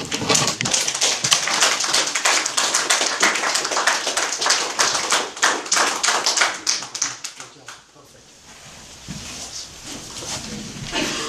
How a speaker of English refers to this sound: Let's give another round of applause to our speaker.